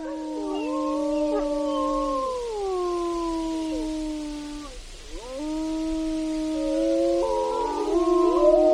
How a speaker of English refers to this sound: Well, as we head into this next break here, you're hearing wolves howling in Denali National Park and Preserve.